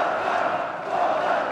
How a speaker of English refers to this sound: And when President Trump finally walks onto the stage to the accompaniment of a military band, the crowd just goes wild.